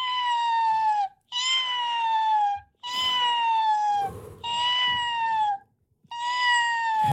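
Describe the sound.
A person mimics a hawk's high cry five times in a row: loud, drawn-out calls about a second each, sliding slightly downward in pitch, with brief gaps between them and no speech.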